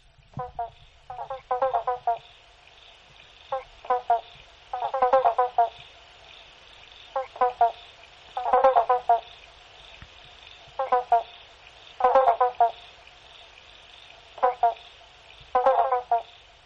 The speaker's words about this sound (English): Each frog calls out bonk, but as soon as one frog calls, others will echo him.